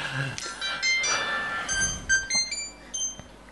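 A mobile phone's turn-off sound: a bright electronic jingle of several high, ringing tones in quick succession, fairly loud, with faint voices murmuring underneath.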